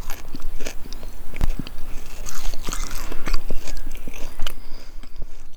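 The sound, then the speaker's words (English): Crisp crunching of fresh hawthorn leaves being chewed at Shannon Pot, a steady run of sharp bites and mastication sounds with no talking, fairly loud. “We kicked off our 40 days and 40 nights by crunching on hawthorn leaves at Shannon Pot.”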